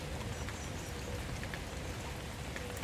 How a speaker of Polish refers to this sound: Pamiętasz, gdzie nagrywałeś burzę?